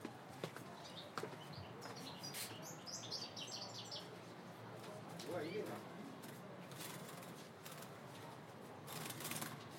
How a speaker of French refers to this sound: Avec le chant, il ramène tous les oiseaux. Ah oui, ah oui, oui. Il vous a ramené. La preuve.